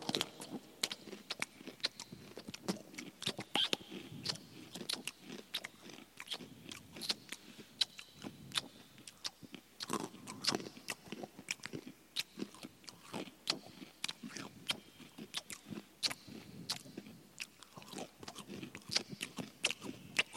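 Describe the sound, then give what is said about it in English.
Wet crunchy chewing with frequent lip smacks, a steady stream of sharp clicks and crackles repeating throughout without any talking. “Turn up the slapping of the lips.”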